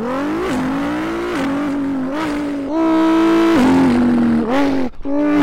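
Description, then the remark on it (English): A kid's voice mimics a Pagani Huayra supercar engine, revving up in rising, whining pitch sweeps with brief gear-shift dips, loud and sustained for several seconds without any words. “Pagani Huayra.”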